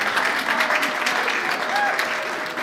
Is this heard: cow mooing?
no